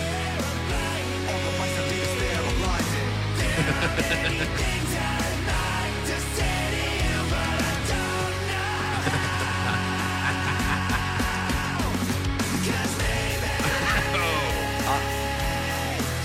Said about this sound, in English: It's a completely new song.